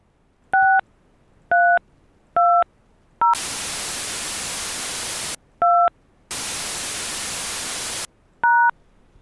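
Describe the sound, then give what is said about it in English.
Six short telephone keypad tones are dialed one at a time with no talking, entering a debit card or account number on a TD Bank phone line, broken up by two long, loud bursts of steady hiss that cover stretches of the entry. “To get started, enter your debit card number or your account number followed by the pound sign.”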